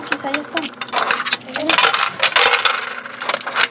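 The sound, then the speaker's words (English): Coins drop one after another into a vending machine for a treat, a steady run of bright metallic clinks and rattles over a few seconds, with faint voices murmuring underneath. “There's one more stop before getting back in the car. The vending machine for a treat.”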